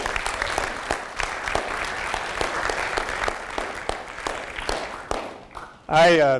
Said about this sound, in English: And so just a round of applause for all the great work he does.